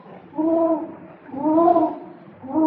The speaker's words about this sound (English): Listen. What's that? Just a hoot owl hooting.